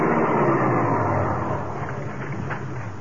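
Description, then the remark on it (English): A small car's engine rumbles steadily at first, then eases off and quiets slightly as the car slows and is run into a clump of bushes to park near a border village in the evening. No voices are heard. “I ran the car into a clump of bushes and parked her there.”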